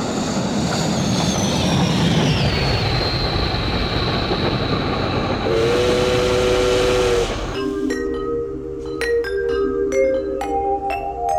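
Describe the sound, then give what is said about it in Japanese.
A train rumbles steadily along with a high gliding tone, then sounds a sustained whistle before twinkling chime-like notes ring out over the continuing rail noise; a 'Galaxy Railway' train bound for Kyoto Sangyo University Takayama Observatory on a Radio MiX Kyoto program. “今宵は銀河鉄道京都産業大学高山天文台行きにご乗車いただき誠にありがとうございます。”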